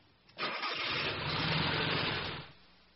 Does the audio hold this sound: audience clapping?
no